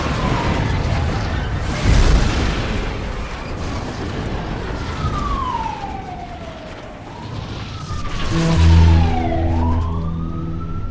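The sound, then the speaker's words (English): An ambulance siren wails in slow rising and falling sweeps over a steady roar of traffic noise, joined near the end by a loud, blaring horn. “Few minor scrapes and stuff, but I was able to go away, avoid the ambulances”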